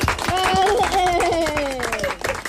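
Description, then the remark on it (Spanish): Loud, steady applause from a crowd, dense clapping filling the whole stretch while a voice rises and carries over the top of it. “Fort aplaudiment.”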